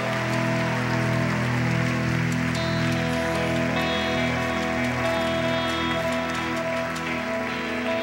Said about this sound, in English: Hey, guys, do this real quick for me and turn around because there's a lot of people who love you right now and they want to say hey. Let's give a clap for these people.